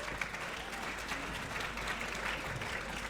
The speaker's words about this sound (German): Deswegen bitte einmal einen Applaus für die, ohne die wäre es überhaupt nicht möglich.